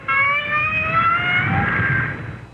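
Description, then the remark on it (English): A whale call: a single drawn-out, squeaky tonal sound with a slowly rising pitch, over a low rumbling background, lasting about two seconds before fading out. “each sound was made by a whale. That's right, a great big blubbery old whale just buzzing and clicking and grunting”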